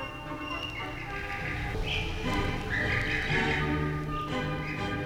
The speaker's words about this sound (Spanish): ¡Es un pájaro! Yo no sabía que los pájaros cantaban de noche. Está cantando desde su nido, cuidando a sus hijitos.